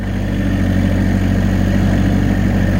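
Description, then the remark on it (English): A tractor engine idles steadily, a loud, continuous low rumble with a throbbing mechanical hum and no voices over it. “Not once I start that tractor, though.”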